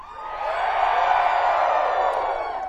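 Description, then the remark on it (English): A concert crowd, asked by the singer to scream out loud, hollers and hoots together in one sustained, steady burst of mixed voices, loud and continuous for a few seconds before tapering slightly at the end. “Where I come from, at best, that was hollering. Maybe more like hooting.”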